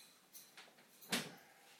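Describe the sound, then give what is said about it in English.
A fridge door is pulled open to take out a bottle filled with water: a few soft clicks and rustles, then one sharper thud as the seal releases, all fairly quiet, with no talking. “So I'm going to get the bottle out of the fridge because I filled it with water earlier on.”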